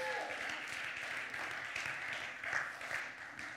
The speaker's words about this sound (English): Give the Lord a hand clap of praise before you sit down.